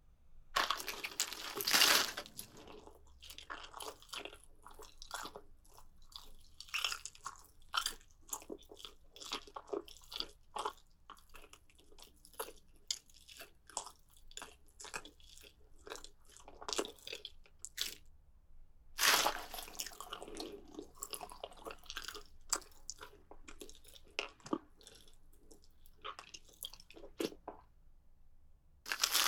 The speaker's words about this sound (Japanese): 肉は一体何層構造なんだろう。噛むたびに新しい発見。